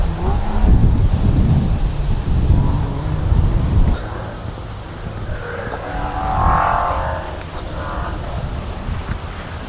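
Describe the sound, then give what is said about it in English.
Wind blows through trees on a windy day at a motorsport venue in a steady, broad rushing hiss, heavier and rumbling at first, then easing into a softer outdoor wash with a faint engine hum. “Might be able to hear the wind blowing in the trees.”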